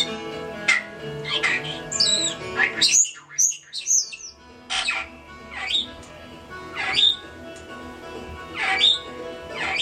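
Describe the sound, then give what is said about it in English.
Carmen, a pet bird, sings and chatters with repeated squawky chirps, warbling bursts and happy singing sounds, layered over soft steady background bluegrass music with a brief pause in the middle. “she just perks up as she starts singing and she starts chattering. And she gives her happy singing sounds.”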